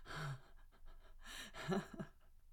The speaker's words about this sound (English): Look what you fucking do to me. I'm panting and covered in spit.